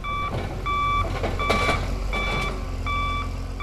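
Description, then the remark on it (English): A debris crew's knuckle truck beeps its backup alarm in a steady repeating rhythm over a low engine rumble, with occasional clanks and scraping of heavy equipment, as it picks up tree trunks, some as big as 20,000 pounds, during cleanup in a neighborhood near the University of Alabama. “A debris crew with a knuckle truck is working in a neighborhood near the University of Alabama.”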